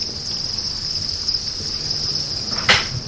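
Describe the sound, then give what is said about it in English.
A dense, continuous wall of chirping from tens of thousands of crickets kept in large troughs inside buildings, trilling together in a steady high-pitched drone, with a brief louder rustle near the end and no voices. “Moving outside and down the block, I hear a familiar chirping. Now, all these buildings here are in crickets.”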